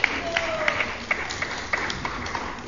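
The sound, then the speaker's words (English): An audience breaks into scattered applause for a volunteer who has come forward for a demonstration, a steady patter of claps at moderate volume with a faint murmur of the crowd underneath. “Give him a clap for volunteer.”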